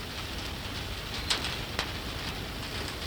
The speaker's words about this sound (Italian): Ecco, questa è la pioggia dal vivo, sentite.